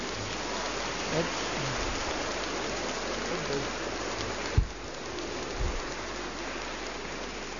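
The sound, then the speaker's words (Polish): A large crowd at the Sanctuary of St. Thérèse of the Child Jesus in Chwałowice, Rybnik, Archdiocese of Katowice, applauds warmly for Telewizja Trwam viewers and Radio Maryja listeners, a dense, steady wash of clapping that holds at an even loudness throughout, with a couple of brief low thumps partway through. “Raz jeszcze widzów telewizji Trwam i słuchaczy Radia Maryja pozdrówmy gorącymi oklaskami i podziękujmy im za to, że byli razem z nami.”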